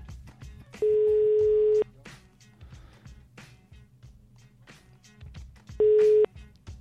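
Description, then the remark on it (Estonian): A telephone ringback tone after a number is dialed sounds twice, a steady loud purr lasting about a second, then a shorter one after a long pause, over a low rumbling background with faint clicks. “Valime numbri ja vaatame, kas meiega...”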